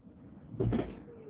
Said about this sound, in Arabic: افتح لك الباب. طب لحظة افتح لها.